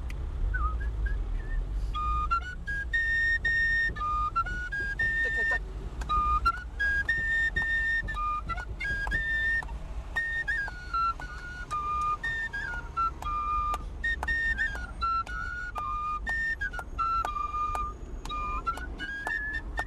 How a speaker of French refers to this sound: Ouais, fais-nous un petit air provençal maintenant. Allez.